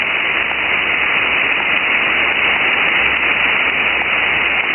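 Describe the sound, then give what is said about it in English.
A dense, continuous hiss of countless overlapping pops, made with the sonic muscles of a chorus of thousands of fish, merging into steady static-like noise that stays loud and unchanging throughout, with no voices. “And to our ears, those pops so close together from thousands of fish sounds like white noise. So don't tune the radio, that's the fish.”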